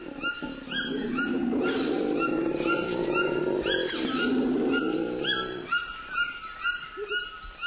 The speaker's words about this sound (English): And the growl of a howler monkey.